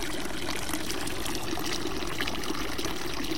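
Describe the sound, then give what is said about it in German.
Water from a Baroque fountain in Solothurn trickles and splashes steadily, a continuous babbling flow with no pauses and no voices over it. “Und ich finde es richtig schön, einfach nur mal auf das Wasser zu hören.”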